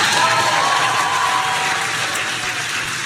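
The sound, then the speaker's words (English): A large crowd cheers and applauds loudly and steadily throughout, a dense wash of clapping and shouting voices with a few higher cheers rising out of the roar, during the splashdown of the Crew 9 Dragon capsule back on Earth. “You can hear the crowd here.”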